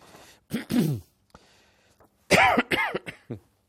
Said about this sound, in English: I'm sorry about all this coughing.